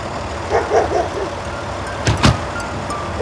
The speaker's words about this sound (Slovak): čo je, aké auto? To sú policajti, originál.